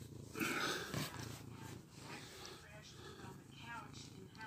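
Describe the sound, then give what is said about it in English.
A cat purrs with a steady, rumbling, low vibration that pulses rhythmically throughout, fairly soft, with faint human murmuring mixed in. “You're a good cat.”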